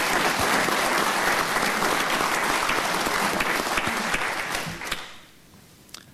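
Steady applause from a crowd, a dense crackle of many hands clapping at even loudness for about five seconds before quickly fading out to near silence.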